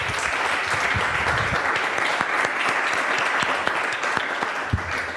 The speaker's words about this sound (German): Einmal kräftigen Applaus.